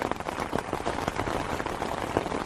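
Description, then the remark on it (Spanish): Steady light rain pattering outdoors at a livestock farm, under a large holm oak, a dense, even hiss of small drops with occasional slightly louder taps, continuous, with no voices. “Cuando llegamos a la explotación nos recibe una enorme encina que permite que nos cubramos ligeramente de la lluvia o de la xoiva, como la llaman por aquí.”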